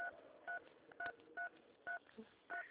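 During a phone call, a series of six short electronic phone keypad beeps, each a two-pitch dual tone, pressed at a steady, slightly uneven pace over a low background hiss, with no voices.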